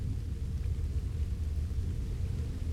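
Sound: rain falling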